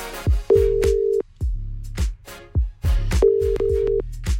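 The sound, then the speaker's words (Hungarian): The ringing tone of an outgoing phone call placed by a radio host to a listener: two steady, mid-pitched beeps, each under a second long and spaced a few seconds apart, heard over a rhythmic music bed. “Petőfi Rádió hívja Lalit. Reméljük, hogy felveszi a telefont.”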